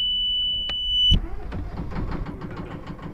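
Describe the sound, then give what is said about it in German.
A sailing boat's diesel engine runs with a low, throbbing rumble and steady chugging pulses as the boat motors out of the harbour on the Überlinger See, Lake Constance, preceded by a brief high-pitched electronic beep tone that cuts off about a second in. “Mit dem Dieselmotor auslaufen aus dem Hafen.”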